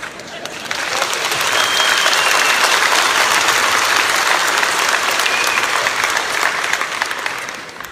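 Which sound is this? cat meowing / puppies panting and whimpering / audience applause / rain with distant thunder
audience applause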